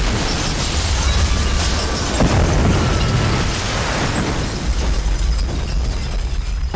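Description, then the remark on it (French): A powerful bomb blast, among about ten explosions that shook Bombay on 12 March 1993, with a sharp crack partway through, surrounded by heavy, sustained rumbling and crackling debris noise that stays loud throughout, with no voices. “Le 12 mars 1993, une dizaine d'explosions secouent Bombay.”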